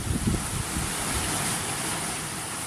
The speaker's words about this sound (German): Noch haben sich nicht alle Schleusentore des Mose erhoben. Noch fließt Wasser in die Lagune.